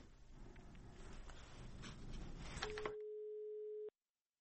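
telephone busy tone

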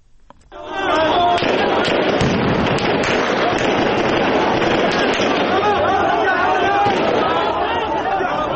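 gunfire

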